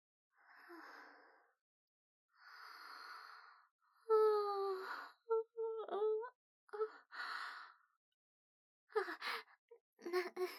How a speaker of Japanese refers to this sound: なんだか、眠くて、あくびが出たら、涙が出ちゃった。今日はね、お友達と、お勉強してて、疲れちゃったのかも。